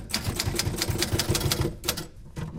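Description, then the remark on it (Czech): Rapid clacking of typewriter keys on a typewriter at a reuse centre in Brno, in an uneven, brisk rhythm, with sharp bright strikes over a low mechanical rumble, pausing briefly near the end before a few more taps. “Přesně na tomto stroji jsem se učila psát.”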